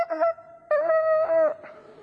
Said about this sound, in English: coals of fire, early morning, rooster crowing, brought back memories for Peter